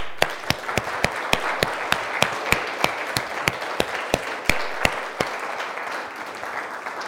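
A crowd of children applauds, a steady wash of clapping with sharper individual claps popping out at a regular beat, tapering off toward the end.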